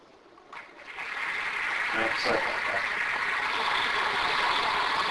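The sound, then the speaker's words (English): A studio audience of a national television program breaks into applause welcoming Watson, a computer making its first appearance on the program, swelling within the first second into a dense, steady roar of clapping that holds at full strength to the end. “Just as I expected, that was a very warm reception, and I'm sure Watson would have appreciated the applause, except for one thing.”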